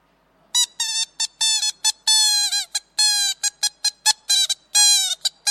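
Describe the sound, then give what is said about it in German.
A toy horn from Kolkata blares in rapid, uneven bursts, its nasal, buzzy tone squawking on and off in short and longer honks, some bending in pitch, loud and alone. “Jetzt ein krasser Gegensatz, liebe Gäste, zu dem schönen Klavier, nämlich diese Kalkuttertröte.”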